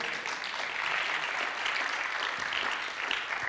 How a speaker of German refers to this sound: Darf ich dir schon einen Applaus geben?